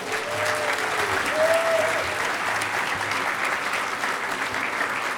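Steady audience applause, a dense wash of clapping from a sizable crowd welcoming a speaker who introduces a guest from the Electronic Frontier Foundation (EFF). It holds at an even level for several seconds, with a faint whistle or cheer rising briefly early on.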